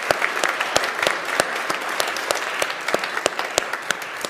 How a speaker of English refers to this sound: Can we just have a round of applause in advance for all of the folks? Yeah.